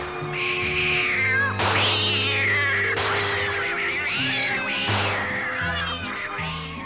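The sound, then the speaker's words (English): A cat meows loudly, four drawn-out, wavering meows in quick succession, each rising then sliding down, over a steady low droning background. “Now, where the hell is that cat? Oh, there's one.”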